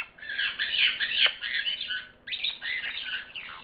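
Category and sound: bird, parrot squawking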